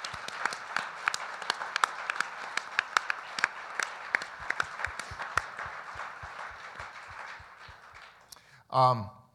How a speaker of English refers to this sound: A round of applause for our guests.